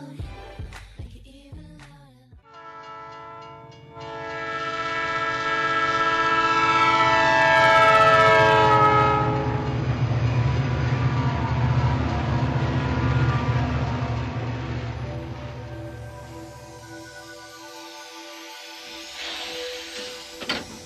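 A train rumbles in and sounds a long, loud horn blast that swells and fades over about fifteen seconds, followed by a quieter mechanical hiss near the end. No one speaks.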